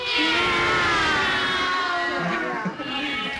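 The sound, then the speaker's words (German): Cats caterwauling in drawn-out, wavering yowls that rise and bend in pitch, loud, continuing without a break across the few seconds with no voices alongside. “Die Katzenmusik klingt eben im Ohr nicht besonders schön.”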